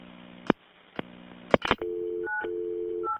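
Several sharp clicks give way to steady telephone keypad dialing tones, each beep holding briefly before shifting to another pitch, clear with no one speaking, as a 911 dispatcher dials to call back.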